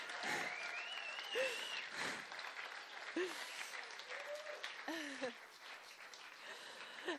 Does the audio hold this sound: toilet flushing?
no